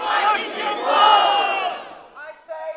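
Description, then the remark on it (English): A crowd of roughly 80 protesters at the state capitol, protesting the state's decision to shoot and kill the entire Profanity Peak wolf pack, chanting loudly, many voices shouting together in unison for about two seconds before breaking off into a few scattered, trailing shouts. “Roughly 80 people gathered at the state capitol last week to protest the state's decision to shoot and kill the entire Profanity Peak wolf pack.”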